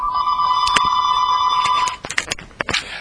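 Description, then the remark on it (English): A steady, high electronic telephone ring holds for about two seconds and then cuts off, followed by a scatter of sharp clicks and clatter. No one speaks. “Sometimes it's a telephone.”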